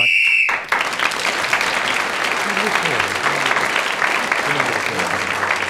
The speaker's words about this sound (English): Well, Clement Freud, speaking as the whistle went, gained an extra point and has regained the lead at the end of that round.